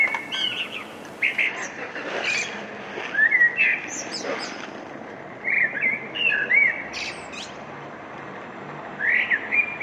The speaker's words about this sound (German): Ein Vogelgezwitscher, das ist ja schon Biolärm, wie wir Golfer sagen, wenn wir unseren Golfschwung machen und die Vögel in den Bäumen zwitschern oder irgendwelche anderen Viecher.